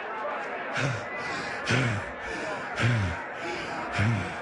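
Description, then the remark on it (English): A bell is struck four times, about once a second, each hit a short clanging thud rising above a steady, noisy background. “Will you knock it off with the bell? I get to hit bell.”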